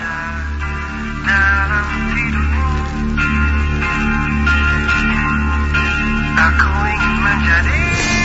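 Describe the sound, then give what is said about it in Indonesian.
Music plays continuously in an office workroom, a steady, pulsing bass beat under bright melodic lines, fairly loud, with no one talking over it. “Iya, terdengar suara musik yang menyala.”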